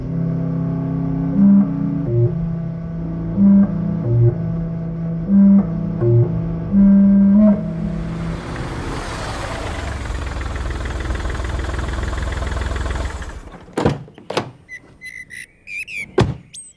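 A car engine hums steadily with a few short tonal beeps as the driver parks, rises into a louder rushing drone, then cuts off abruptly, followed by sharp clicks and clunks of the car being shut down.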